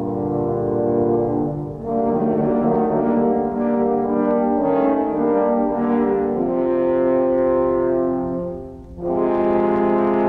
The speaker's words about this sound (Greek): Αν ακούσετε τα τρία κόρνα, τότε προσοχή, έρχεται ο κακός ο Λύκος.